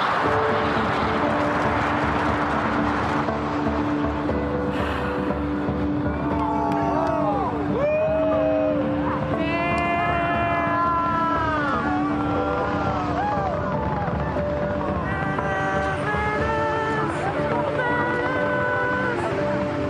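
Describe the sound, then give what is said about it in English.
A continuous, heavy rumbling roar of rocket engines at liftoff fills the whole stretch, steady and loud, with excited crowd voices and cheering rising and falling over it. “7, 6, 5, 4, engine ignition 2, 0, relation 10, lift off.”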